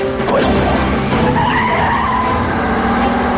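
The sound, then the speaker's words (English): A battered car roars down a ramp at speed chasing a Mercedes, tires squealing and skidding loudly, the engine droning steadily underneath for a few seconds with no voices. “speeds down a ramp after the Mercedes. Their battered car pulls alongside the Chinese thug.”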